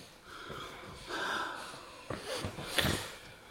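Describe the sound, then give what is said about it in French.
A man sniffing ether: raspy breathing with a few sharp sniffs and a wheezy, whistling inhale near the end, heard alone without any talking. “Dites donc, mademoiselle Michonneau, il renifle à l'éther.”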